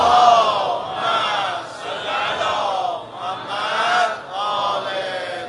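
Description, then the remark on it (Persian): A large crowd chants salawat together in loud unison, voices rising and falling in repeated swells of a few seconds each, a steady massed roar with no single voice standing out. “هر کسی شنید و هر کسی دوست داره خدمت بکنه تو دستگاه سید و شهدا به مردم محروم کشورمون، یه صلوات بلندی بفرسته.”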